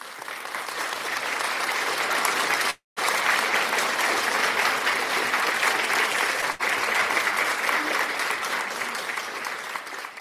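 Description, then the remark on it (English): An audience at a church service applauds for the Holy Ghost, a dense wash of clapping that stays loud and continuous for about ten seconds, broken only by a brief cut early on. “Applaud for the Holy Ghost.”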